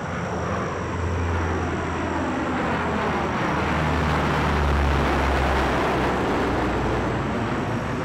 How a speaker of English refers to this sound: These were big aircraft, 80-foot-long, four-engine Hercules military planes, which had to land without being seen.